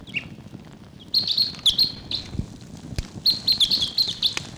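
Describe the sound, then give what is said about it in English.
A wild bird calls in the distance in Barfoot Park in high, chirping bursts, two clusters of rapid tweets separated by a short pause, with soft low rumbling underneath and no talking. “Wild bird calling in the distance there.”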